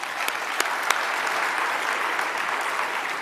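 A room full of people, the audience at the close of the first day of an event, claps steadily, a dense wash of many hands with a few sharper individual claps standing out, sustained and fairly loud throughout.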